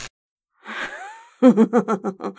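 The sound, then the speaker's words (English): Gasping: a sharp, breathy intake of air that rises in pitch, followed by a rapid run of short, shaky breath pulses. No one speaks. “I love the way you gasp and buck, darling.”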